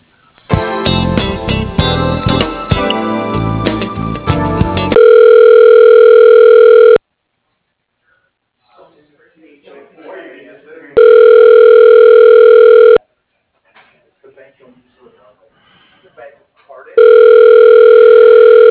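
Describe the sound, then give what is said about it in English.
A phone line rings back three times while a call is transferred to the CFO's voicemail at Industrial Laboratories, each a loud, steady two-second tone separated by pauses of about four seconds, after a brief burst of dense, busy line noise. “I can transfer you and you can leave a voicemail for him.”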